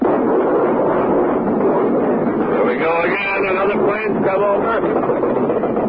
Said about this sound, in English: Now planes are going overhead. That baby was plenty low. And now flak is coming up in the sky.